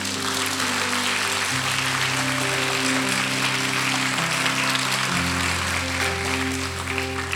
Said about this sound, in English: Can we give God a big clap?